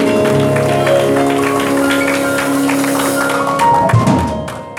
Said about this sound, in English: Let's give Jesus one more big hand clap of praise this morning.